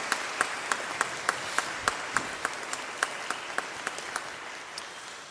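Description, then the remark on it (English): An audience applauds the fathers on Father's Day, a steady, dense wash of many hands clapping with a few sharper individual claps popping out at a regular pace throughout, with no voices. “Congratulations, gentlemen. Let's hear it for them.”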